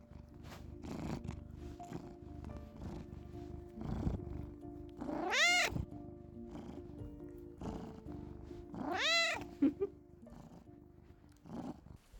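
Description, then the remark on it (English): A cat purrs in a steady, rumbling rhythm, broken twice by long, wavering high-pitched cries before the purring continues alone. “Stiles cradles Derek close, calming at his soft scent and dulcet purrs vibrating his sternum.”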